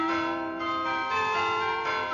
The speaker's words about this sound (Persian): ناقوس کلیسا به صدا در میاد.